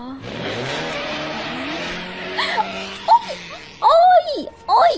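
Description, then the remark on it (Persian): A motorcycle engine roars past up close, its pitch dropping as it speeds away, followed by a few short, lively voices. “اوی الهی، پنچر شیک از روم رد شدی موتوری.”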